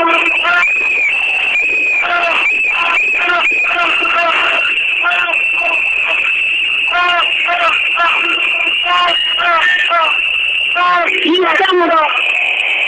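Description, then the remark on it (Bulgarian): A crowd blows whistles nonstop, a shrill, steady high-pitched shrilling layered with warbling, fluttering trills, while many voices shout and chatter loudly underneath throughout. “Надуйте ги всички свирки!”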